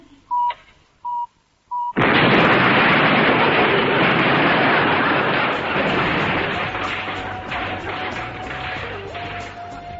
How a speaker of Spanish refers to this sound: Como ya es costumbre, esta cinta se autodestruirá en exactamente 5 segundos. Bueno, en 6.